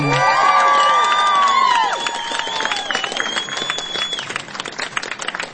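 A crowd bursts into loud, sustained applause with high cheers and whoops rising above the steady clapping, which continues strongly throughout the few seconds.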